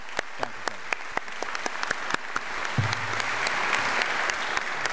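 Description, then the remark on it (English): A crowd at a DePauw alumni weekend breaks into applause, scattered sharp claps at first that quickly build into a dense, steady wash of clapping from a large audience, with no talking over it. “I want to take a moment first to thank the members of the alumni office who made this weekend happen, and I particularly want to acknowledge and applaud”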